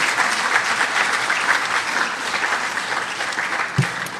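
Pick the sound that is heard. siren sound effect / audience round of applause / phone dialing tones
audience round of applause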